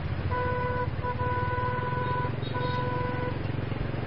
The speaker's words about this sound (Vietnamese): Vừa vào khu phố thì có vài chiếc xe bóp còi inh ỏi.